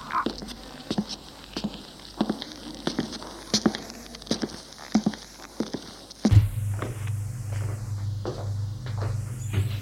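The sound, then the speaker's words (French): Light footsteps and small knocks patter, then a wooden drawer of a chest of drawers is pulled open with a sudden low scraping rumble that lingers under faint clicks. “Il ouvre le tiroir de sa commode et voit le livre rouge.”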